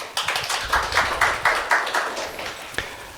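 An audience applauds a speaker introduced to give a talk on the logic behind computer games, steadily for about three seconds, a dense crackle of many hands with a loose rhythmic pulse, fading slightly toward the end. No one speaks.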